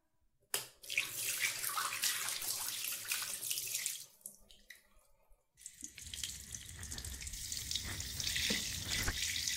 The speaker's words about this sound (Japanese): では、まずシャワーを。